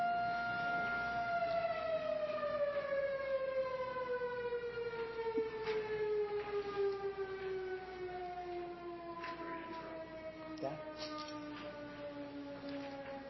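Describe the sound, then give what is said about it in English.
A loud outdoor civil-defense siren on a roof wails steadily, then slowly winds down, its droning pitch sinking gradually over several seconds with no voices present. “siren on the roof, it'll wind up and then wind down again.”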